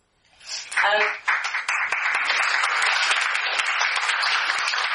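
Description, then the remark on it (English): An audience at a morning talk event bursts into applause welcoming the opening speaker, quickly swelling into a dense, steady clatter of many hands that holds at an even loudness to the end, after a short voice-like sound at the start. “You can clap yet more in a moment.”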